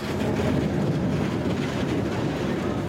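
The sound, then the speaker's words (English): A train arriving at Shibuya Station rumbles steadily, a continuous low roar of wheels and rail noise that holds an even loudness throughout, with no voices. “When Junko got off her train, she was called over by Rumie-san.”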